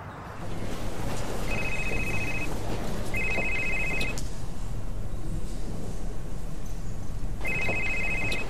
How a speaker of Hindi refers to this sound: आपका फोन बज रहा है। हाँ, मेरा ध्यान नहीं था।